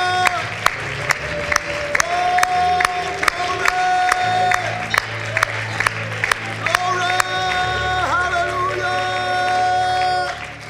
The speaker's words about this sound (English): Let's one more time clap our hands and thank the Lord. Hallelujah.